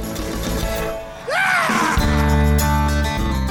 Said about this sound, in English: How can a scream undo a campaign? Well, it didn't. Still, Howard Dean's response to his third place finish in Iowa is one of the most famous concession speeches, or concession utterances, of the television age.